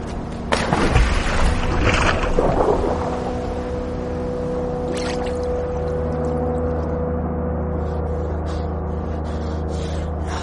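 A loud burst of splashing water for a few seconds as a woman jumps into icy water, then a steady low mechanical drone like a boat engine continues underneath.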